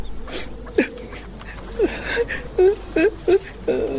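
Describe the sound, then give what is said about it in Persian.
A woman whimpers and cries, remembering the hardships of her life, in a string of short, wavering sobs, about six strained bursts with quiet breathy gaps between them. “چی گپ شده؟ چرا گریه میکنی؟”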